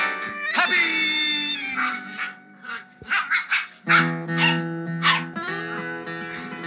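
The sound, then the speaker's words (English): A family of Old English sheepdog puppies play and bark in a wood-paneled suburban den, in quick, high-pitched bursts, several short calls tumbling over each other, fairly loud, with a steady low tonal hum running underneath. “The scene fades up to a family of Old English sheepdog puppies playing and barking in a wood-paneled suburban den somewhere, with mellow guitar music in the background.”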